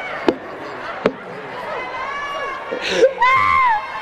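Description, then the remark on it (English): A crowd cheers, with voices rising into loud, high-pitched screams and whoops toward the end. Two sharp knocks come early, over a steady murmur of chatter. “Shit sound like a graduation.”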